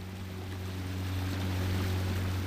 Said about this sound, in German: Pfeilschnell durchpflügt das Beiboot der Almirante Moreira 9 die Wellen und verschwindet in Richtung Ufer. Nach einigen Minuten prescht das Boot wieder heran.